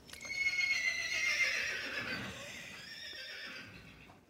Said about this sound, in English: Come on, it's a horse neighing.